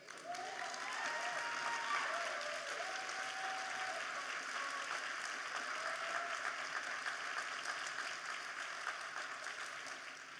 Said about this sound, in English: That was absolutely wonderful. Can we give him another round of applause?